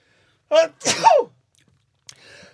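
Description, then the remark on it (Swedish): A single loud sneeze: a sharp catching breath followed by an explosive, breathy burst that trails off, then a moment of quiet and some faint rustling. “Prosit.”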